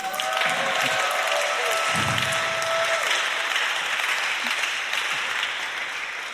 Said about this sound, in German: Also lass uns hier nochmal einen kräftigen Applaus geben.